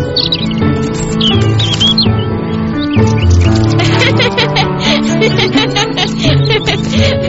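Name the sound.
birds chirping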